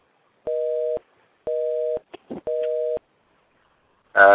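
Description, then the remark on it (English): A telephone off-hook tone from a phone left off the hook: three steady, mid-pitched electronic beeps, each about half a second long with equal gaps, separated by a few faint clicks and ending in a brief louder burst. “Okay, King knew we were on the air, and he put his fucking phone off the hook.”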